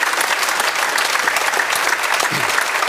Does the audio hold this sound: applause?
yes